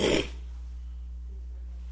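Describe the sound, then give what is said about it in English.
A single short, breathy, loud whoosh as a fire doused with too much lighter fluid catches from a match, over in a quarter second, then only a steady low electrical hum remains. “Have you ever been building a fire and you put too much lighter fluid on it and you set a match to it? What do you hear?”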